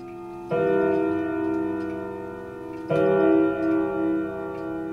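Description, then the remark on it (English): A clock, just repaired by a clock repairman from Rhinelander, chimes twice, about two and a half seconds apart, each stroke a loud, rich, bell-like tone full of overtones that rings on and slowly fades. No one speaks. “After a few hours of tender repairs, a chime, a sound seeming to bring back the presence of Leona's husband.”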